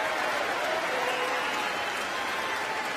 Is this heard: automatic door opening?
no